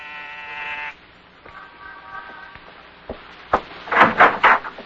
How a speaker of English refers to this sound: On the afternoon of your arrival in New York, you walk down the corridor of an apartment building in the East 70s, pause, and press a buzzer.